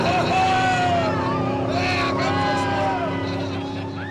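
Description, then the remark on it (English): Several lobster boat engines roar together at high throttle as the captains accelerate from the starting line when the flag drops, at a Maine Lobster Boat Racing Association race, a dense, steady drone with rising and falling pitch sweeps, with faint crowd murmur underneath. “When the boats pull into line, the flag drops, and the captains hit the throttle.”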